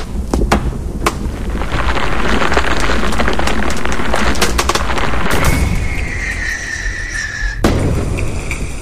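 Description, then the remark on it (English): A loud, sustained roar of a firework bought on eBay, set off inside a shed, with sharp crackling bursts, followed by a rising whistle and a final bang as the rumble fades. “The brothers get inside the shed and set light to the eBay firework.”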